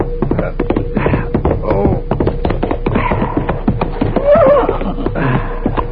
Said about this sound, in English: a horse was pounding along a moonlit trail heading for the home corral.